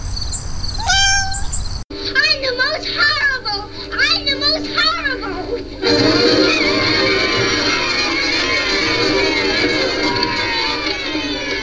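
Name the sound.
cat meowing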